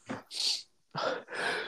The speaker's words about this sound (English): Bless you again.